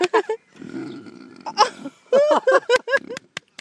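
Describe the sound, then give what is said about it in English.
A large pig grunts in a long, low, rumbling snort, followed by a quick run of short, higher-pitched grunts and squeaky snuffles in an uneven rhythm. “I just want to catch it doing this grunting thing again.”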